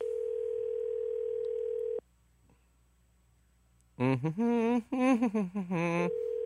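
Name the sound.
phone ringing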